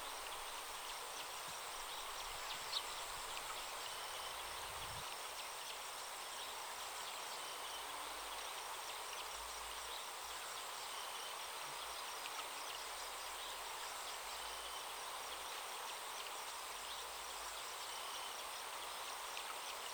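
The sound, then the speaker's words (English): Continuous bubbling stream water runs steadily throughout at a riverbank, a dense, even wash of trickling and gurgling at moderate volume, with no voices and no breaks. “The cool breeze, the glistening, bubbling water.”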